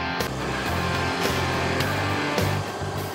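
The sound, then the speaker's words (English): A huge diesel engine of a Letourneau L2350, the largest front-end loader in the world, built by the Letourneau Company of Longview, Texas, runs loud, a deep steady rumble with rising revs and periodic bursts of hissing, clanking machinery noise throughout. “The Letourneau L2350, the largest front-end loader in the world.”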